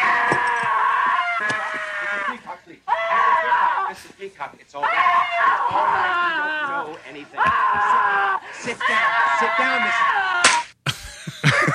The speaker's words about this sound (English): Here's scream slap. This might be it.